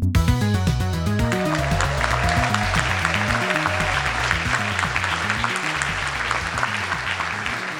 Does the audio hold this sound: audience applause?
yes